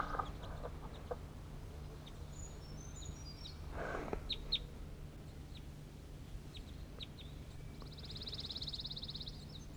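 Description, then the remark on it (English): Fowl cluck and chirp quietly in scattered bursts as they go down to peck on the ground, recorded close to the birds, over a steady low hum, with a brief scratchy rustle midway and a high buzzing trill near the end. “I'm really close to the birds. They're going down to the ground for stuff.”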